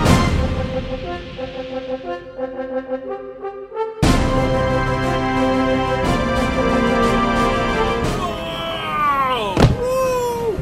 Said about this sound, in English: Merciful heavens! You slammed the Baron's airship down hard!